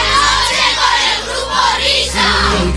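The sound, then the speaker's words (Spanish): A boys' choir (escolanía) shouts the name of the COPE radio programme La Noche in unison, a loud, dense burst of many young voices that swells and dips in two or three surges over about three seconds. “Ahí está toda la escolanía gritando el nombre de este programa.”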